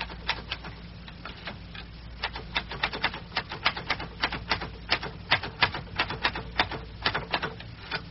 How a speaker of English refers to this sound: You see, they never sleep over there. Or not enough. Someone's typing over there.